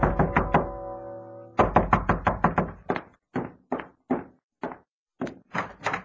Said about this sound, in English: Ah, here no, laddie. Dinna be bashing the door